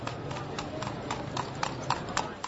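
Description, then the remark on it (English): Hooves clip-clop steadily on a hard street, a regular run of sharp knocks from a horse pulling a cart carrying people, heard over a constant background hum with faint voices. “A horse and cart and its human cargo makes its way through the streets.”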